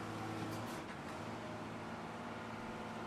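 A steady, low engine rumble with a droning hum holds for a few seconds as trucks pull in. No one speaks.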